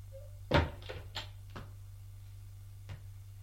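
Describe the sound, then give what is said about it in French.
A woman knocks sharply on a door, then a few softer thuds and a final faint click as she opens the door and enters, with no voices. “Elle frappe à la porte. Entrez. Elle entre.”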